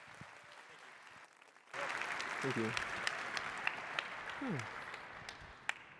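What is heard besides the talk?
audience applause welcoming speakers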